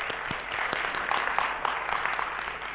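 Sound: audience applauding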